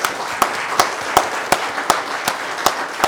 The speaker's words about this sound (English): Maybe another round of applause for them.